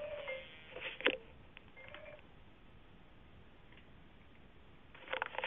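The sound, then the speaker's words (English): A few short electronic keypad beeps sound over a thin, muffled landline that someone else is also using, spaced unevenly in the first two seconds, then a quiet hiss and a burst of clicks at the end. “That's one of the problems when you're using a land phone that somebody else is also using.”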